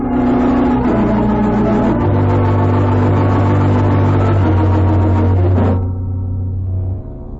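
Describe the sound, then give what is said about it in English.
A loud outboard motorboat engine, a boat coming from the lodge, drones steadily with a deep, buzzing hum, then throttles down abruptly near the end and idles lower. No one speaks. “Look. From the lodge. An outboard motorboat.”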